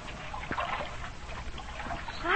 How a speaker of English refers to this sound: The hold is full of water. Come along. Let's go below. Great Scott, there's 2 feet of water in the hold, and we're shipping more.